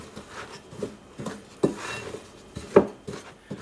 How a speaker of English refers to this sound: Now just stir all this in, mix it together until it's well combined.